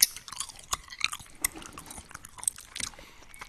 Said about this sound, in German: Hör auf, ins Mikrofon zu kauen.